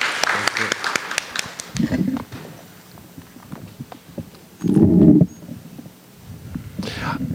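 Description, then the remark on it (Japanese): A short burst of audience applause after a prayer, many hands clapping briskly for a second or two to encourage a man, then fading as people talk and murmur. “Let's give him a 頑張って hand clap.”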